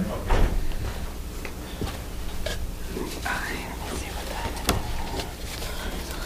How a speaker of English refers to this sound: Oh, was that something? That's the door open.